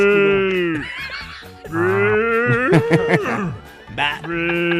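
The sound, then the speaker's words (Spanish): A cow mooing sound effect: three loud, drawn-out, wavering moos in close succession, each call sliding in pitch, with no talking over them. “No, ahí sonó la vaca.”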